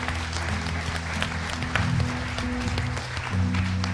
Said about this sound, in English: If you prayed that prayer today and you meant it, we say, welcome to the family, God. Let's give him a hand clap prayer.